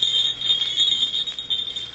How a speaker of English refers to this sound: Bells, jester's bells. For 40 years I've lived with the sound of those bells. Fool's bells, jester's bells.